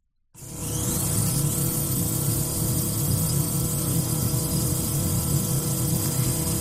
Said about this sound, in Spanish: Hay varios drones trabajando en la búsqueda de Javier. Escucha.